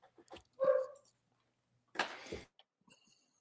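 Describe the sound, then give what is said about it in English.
Dogs bark twice, a tonal yelp followed by a harsher, rougher bark about a second later, with faint scattered clicks and rustles between them. “You know, let me go deal with the dogs. They're pissing me off.”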